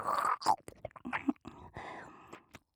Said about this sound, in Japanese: もぐもぐと咀嚼をすると唾液が分泌されますから、聞こえますか？このようにグツグツと音が鳴らせる程度の量がたまれば十分です。